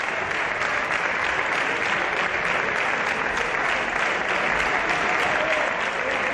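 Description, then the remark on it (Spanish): Sustained applause from the socialist benches for Pedro Sánchez, a dense, steady wash of clapping that holds at an even level for several seconds with no voices rising above it. “Bueno, pues antes de todo eso, hubo que aguantar otra ración de aplausos de la bancada socialista Pedro Sánchez.”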